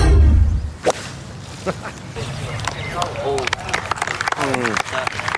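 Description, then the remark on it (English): A golf shot's sharp whoosh and crack, then a small crowd giving a polite golf clap of scattered claps under low murmuring voices, modest in volume. “And that golf clap reminds me of the sort of reaction Mick gets on Have You Been Paying Attention.”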